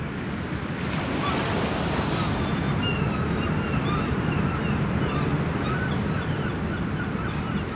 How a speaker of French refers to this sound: Le vent souffle. Un vrai temps pour cerf-volant.